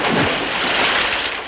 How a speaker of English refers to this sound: He has fallen in the water.